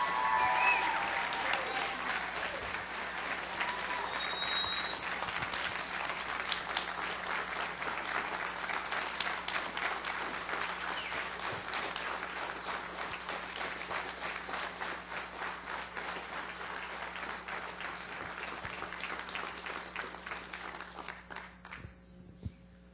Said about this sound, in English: Let's give this choir a great big round of applause.